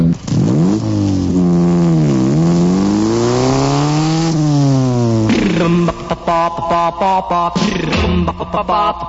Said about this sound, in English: A motorcycle.